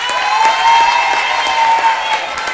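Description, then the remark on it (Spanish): A crowd applauds a woman being honored, many hands clapping in a dense, loud wash that holds for a few seconds, with a faint sustained tone or cheer running underneath. “mas, gente, uma grande salva de palmas para essa cega honorária,”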